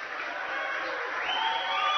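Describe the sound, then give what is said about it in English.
A basketball crowd of Hanover supporters cheering in a dense, steady roar, swelling slightly louder toward the end, with no clear individual voices standing out. “You can start to hear the Hanover crowd.”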